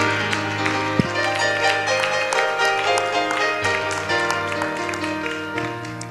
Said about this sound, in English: As we're seated, let's clap our hands and give a great shout of praise to the Lord.